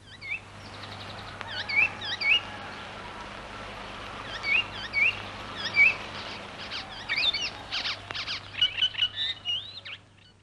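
A yellow icterine warbler sings a varied, chattering song of quick, high chirps and whistles in repeated bursts, over a faint steady low hum and soft outdoor background.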